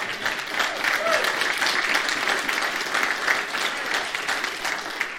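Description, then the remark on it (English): A crowd applauds steadily for about five seconds, a dense, even wash of many hands clapping at once with no pauses or single claps standing out. “You clap, but you better be here when we have that.”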